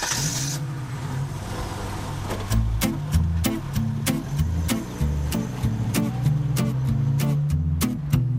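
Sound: car engine driving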